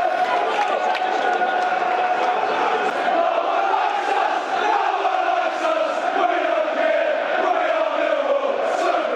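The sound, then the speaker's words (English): A football crowd roars loudly and continuously at a crunching tackle by George Evans about 13 minutes into the match, a dense wall of many voices holding steady for about nine seconds with slight swells and no clear individual words. “Listen to the roar for that crunching tackle.”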